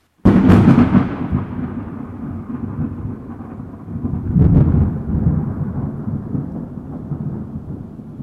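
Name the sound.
thunderstorm with thunder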